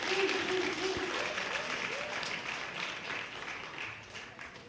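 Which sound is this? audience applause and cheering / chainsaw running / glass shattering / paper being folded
audience applause and cheering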